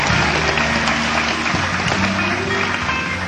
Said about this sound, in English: big round of applause in Chicago, ladies and gentlemen.